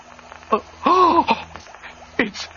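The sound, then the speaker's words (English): Raspy, wheezing breathing of a monster that is a giant bagel, a few strained voiced breaths with a growly, moaning quality, fairly loud, likely a voice imitating the creature rather than a real animal. “It's breathing.”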